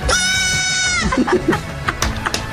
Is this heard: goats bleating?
yes